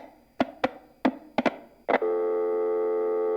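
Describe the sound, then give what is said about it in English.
A few sharp clicks and clunks on a phone line as a caller from Edmonton is lost, then a steady buzzing telephone tone sets in and holds, loud and unbroken, with no one talking. “We're having incredible telephone problems today. We have lost the caller from Edmonton.”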